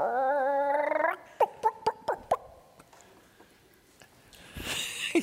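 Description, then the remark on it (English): During a game of Simon Says, a person does a chicken impression: a drawn-out, nasal squawk followed by a quick run of five or six sharp, rhythmic clucks, loud, ending with a breathy rustle. “Makes sound like a chicken.”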